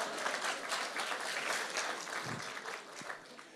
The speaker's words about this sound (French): Et là, vous applaudissez, hein, vraiment, c'est le principe.